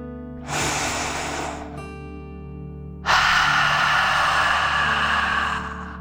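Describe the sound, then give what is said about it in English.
A deep dragon breath: air drawn in through the nose, a short pause, then a long, forceful exhale through the mouth, pretending to breathe fire, fairly loud, with no talking. “Remember to breathe in through your nose, filling up your lungs, and breathe out through your mouth, pretending you are breathing fire.”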